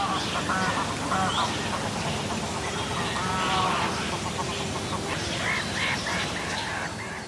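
birds calling near water

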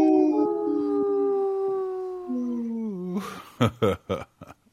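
wolf howling

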